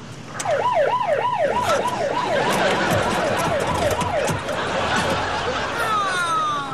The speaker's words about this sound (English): We don't need the siren right now